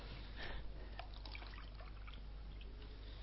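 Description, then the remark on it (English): Water trickles and pours quietly, with a few faint drips over a steady liquid splash lasting a few seconds. No one speaks. “That's why I have water.”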